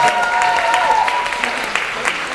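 A crowd applauds steadily, many hands clapping in a dense, continuous patter at an even loudness throughout, with a faint tonal whistle or hum briefly audible at the start.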